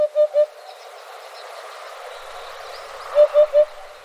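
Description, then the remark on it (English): A hoopoe calls twice, each time a soft, hollow triple 'oop-oop-oop' at an even pace, separated by a few seconds of steady outdoor ambience, with no voices. “Special thanks to the Macaulay Library at the Cornell Lab of Ornithology for our bird sounds, including this hoopoe.”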